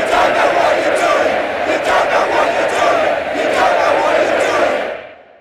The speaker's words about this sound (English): And use software to apply the rhythm and cadence of the chant to a library recording of a stadium crowd. Then they combine the two so that a few Zoom recordings becomes a stadium full of angry soccer fans.